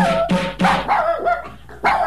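A dog barks repeatedly, about five or six sharp, loud barks with brief gaps, some ending in a whiny, drawn-out tone.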